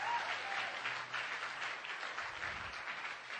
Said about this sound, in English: And for the rest of us here this morning, give it the Lord a big clap. Hallelujah.